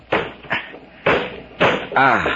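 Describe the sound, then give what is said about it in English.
A doctor forces open a stuck window in a house by the sea: four heavy, uneven thumps and rattles, each one a hard shove against the frame, followed by a brief straining voice. “Now, I'm going to open this window.”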